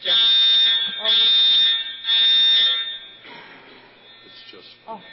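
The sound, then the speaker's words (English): A warning siren being tested on the first Wednesday sounds three loud, steady, high-pitched blasts with brief gaps between them, then drops away, leaving faint murmuring voices. “It's a warning. It's testing a siren.”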